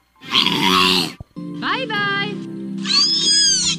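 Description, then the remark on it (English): A killer whale imitates a human voice, producing three strained, voice-like calls with wavering harmonics and squeaky overtones, the middle one sliding in pitch, all loud and distorted. “Killer whales mimic human voice.”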